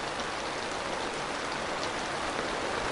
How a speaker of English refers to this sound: And then suddenly the rain comes.